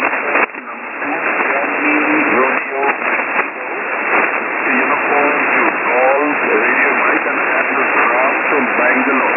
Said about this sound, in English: Give us the call again. We have static. We have storms. Give us the call again.